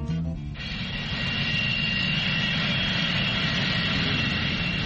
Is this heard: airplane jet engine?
yes